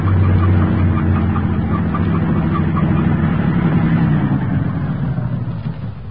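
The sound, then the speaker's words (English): A truck with no headlights on rumbles steadily with a deep, continuous drone, slowly fading a little as the vehicle rolls past. “The truck has no headlights on, but it's going to pass right by us.”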